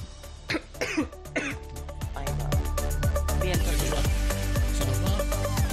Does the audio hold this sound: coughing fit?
yes